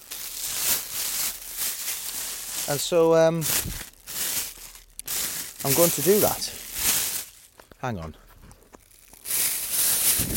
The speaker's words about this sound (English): They wanted me to review my Polish Army Lavu a bit more, and apologies for the crackling of the bag.